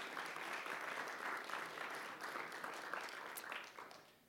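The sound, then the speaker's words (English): An audience at an Innovator Workbench event applauds steadily for about four seconds, a dense crackle of many hands clapping at an even level before tapering off slightly at the end. “Please join me in giving her a round of applause.”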